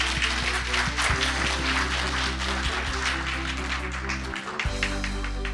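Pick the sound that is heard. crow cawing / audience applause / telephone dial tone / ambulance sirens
audience applause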